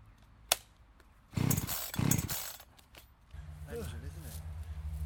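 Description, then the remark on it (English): A chainsaw that won't start being pull-started by hand: a sharp click, then two loud, rasping cord yanks that make the engine sputter briefly, followed by a low, steady drone with a voice murmuring. “It's fucking exhausting trying to crank this thing. It's not having it, is it?”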